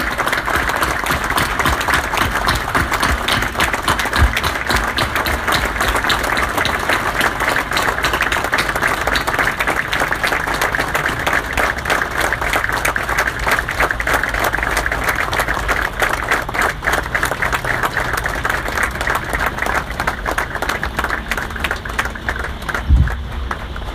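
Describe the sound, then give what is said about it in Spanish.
A large crowd applauds steadily for about twenty-four seconds in tribute to 43 Argentine gendarmes, a dense, even wash of many hands clapping that holds its loudness from start to finish, with no voices standing out. “Quiero que terminemos con un aplauso a esos centinelas de la patria.”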